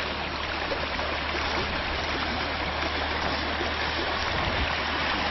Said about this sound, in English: Now you can see this beautiful creek.